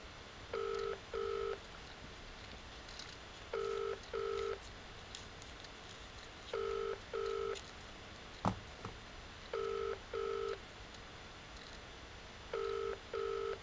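A telephone ringing tone repeats in steady double pulses about every three seconds, five times over, clear and even, with a single soft click partway through and no talking.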